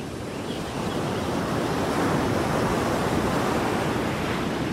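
Steady roar of ocean surf breaking on the beach at Prado Mar near Barranquilla, a dense wash of crashing water that swells slightly after the first moment and stays loud and continuous, with no voices.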